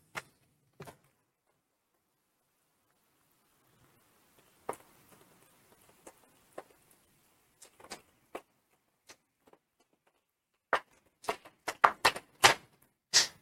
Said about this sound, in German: Ja, danke vielmals für den tollen Vortrag und den tollen Applaus.